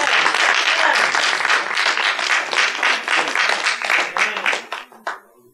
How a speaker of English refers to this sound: Give the Lord a hand clap of praise for the Holy Ghost.